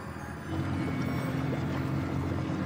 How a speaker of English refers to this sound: She sits behind the wheel and drives the boat across the lake.